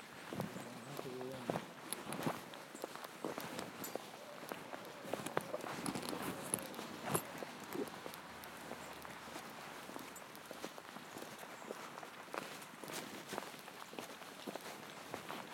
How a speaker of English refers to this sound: It's quite nice walking in the rain, really. We're not going across the grass, are we? My feet are going to get soaking wet.